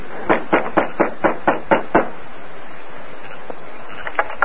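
A quick, steady run of about seven knocks by a masked man on the front door of a house, fairly loud, followed by a quieter stretch with a few faint taps near the end.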